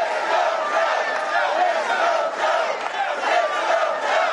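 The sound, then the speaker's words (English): A crowd of nearly 2,000 at the first major Biden-Harris campaign rally in Philadelphia chants "four more years" and "Let's Go Joe" loudly and steadily, many voices merging into a dense, continuous roar with a rhythmic rise and fall throughout. “Those in attendance appeared to be excited for Biden's candidacy, with chants of four more years and Let's Go Joe shouted in the room.”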